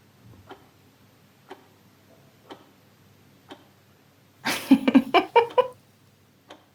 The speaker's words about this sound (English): Ticking clock in the background. That's apparently how a German registry office sounds like during Corona times.